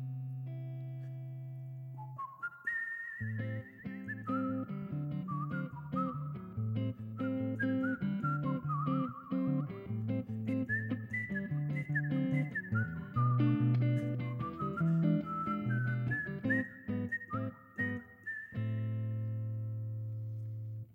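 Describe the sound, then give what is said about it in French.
A whistled, birdlike melody imitating a blackbird's song, with quick rising and falling phrases that run steadily for about twenty seconds over a low, sustained musical accompaniment. “graine des pommes de pin et sifflait tous les matins.”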